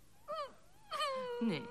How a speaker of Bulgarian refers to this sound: Не плачи, Нилс. Надявай се.